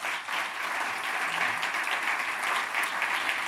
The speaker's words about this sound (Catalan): Aplaudiment.